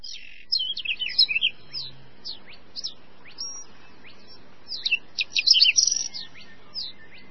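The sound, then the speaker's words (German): Rare birds sing and chirp in quick, high-pitched bursts, with a busy flurry near the start and another near the end, against a quiet outdoor background in an unspoiled nature area in southern Mecklenburg, Germany. “Haben Sie es gehört? Seltene Vögel kann man hier hören.”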